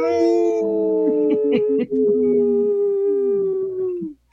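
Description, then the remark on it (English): On the Native Roots Radio show, several people howl together like a wolf pack for a Howling for Wolves segment, one of them laughing instead of howling. It is one long, loud, sustained cry with overlapping voices that slides slightly downward and fades out after about four seconds. “There was one wolf that was laughing and not howling.”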